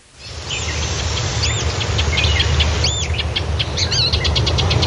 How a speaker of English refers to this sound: Is that a brown-headed nuthatch? No, I think it's a pine. Bird watching in Blackwater River State Forest.